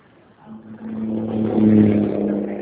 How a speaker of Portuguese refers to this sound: É só um momento aqui, que eu tô aqui no trânsito, um barulhão, só um momentinho.